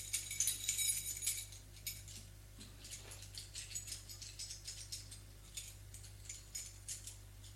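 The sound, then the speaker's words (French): Keys jangle on a key ring as a referenced key is taken from it: a burst of bright metallic jingling at the start, then lighter, intermittent clinks and rattles over a low steady hum, with no voices. “il prend dans son trousseau une clé référencée.”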